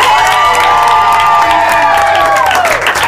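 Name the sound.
audience applause and cheering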